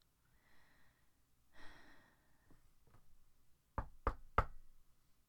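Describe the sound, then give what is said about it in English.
Three firm knocks on a door in quick, even succession, fairly loud, following a few soft breathy sounds amid otherwise quiet. “Who's at the door?”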